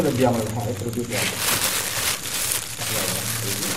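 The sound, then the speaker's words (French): A plastic bag crinkles and rustles in several irregular bursts as a vendor pulls it open, revealing dozens of small plastic sachets of tobacco, while a voice murmurs underneath throughout. “Cette vendeuse ouvre ensuite un sac plastique devant nous.”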